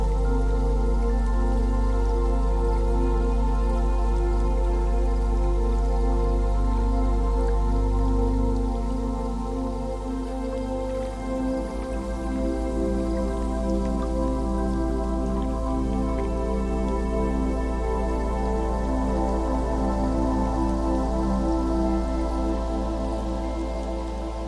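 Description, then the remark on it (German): A soft, steady watery rush with faint dripping textures runs continuously, fairly even in loudness, like gentle sea water as the sun slowly sets over it, with no voices. “Ein wohliges Gefühl breitet sich in dir aus, während du das leise, rauschende Meer betrachtest, in dem die Sonne langsam versinkt.”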